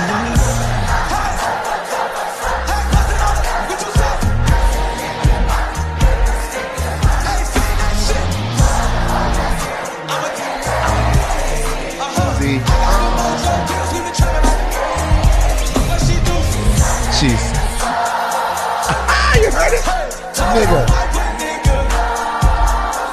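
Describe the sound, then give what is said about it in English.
A large crowd at the Wireless Festival in England sings along loudly over thumping live music, a dense roar of many voices rising and falling steadily throughout. “I have chills though when I hear the crowd singing it.”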